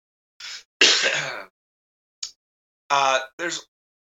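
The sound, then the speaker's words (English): A dry cough followed by a few short bursts of throat clearing, each rough and brief, with short pauses between them and no talking, from a person in dry weather in Miramar. “Yeah, you're a little coughing.”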